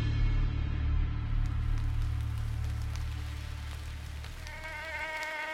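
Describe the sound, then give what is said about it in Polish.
A mosquito, Anopheles maculipennis, a malaria carrier, buzzes steadily for several seconds, a droning hum that gains a higher, thin whine toward the end, with no voices. “Malarię roznosi Anopheles maculipennis, komar widliszek.”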